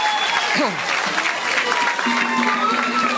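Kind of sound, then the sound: crowd, crowd applause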